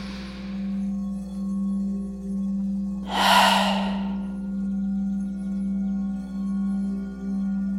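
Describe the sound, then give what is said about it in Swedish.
A deep, audible exhalation during a breathing exercise rushes out near the middle, preceded by a fainter breath at the start, all over a steady, low humming drone with no talking. “Jättebra, bara andas ut och släpp.”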